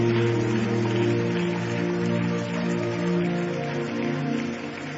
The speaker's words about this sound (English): Let's keep clapping.